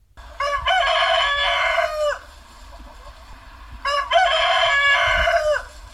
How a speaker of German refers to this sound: Das ist nicht der Hahn, der die Bewohner der evangelischen Altenhilfe jeden Morgen weckt, sondern eins von den vielen Therapietieren